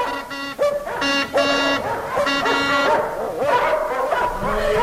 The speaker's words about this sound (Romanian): Știi că pe mine nu mă mai latră câinii? Atunci pe cine o lătrade, au făcut atât alarmă?